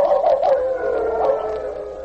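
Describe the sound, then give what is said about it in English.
A team of dogs tied at intervals along a rope howl together in a sustained, wavering chorus, protesting their restraint, their overlapping voices rising and falling continuously, with no talking. “The other dogs caught King's mood. One or two raised a voice in protest at restraint. The others joined in.”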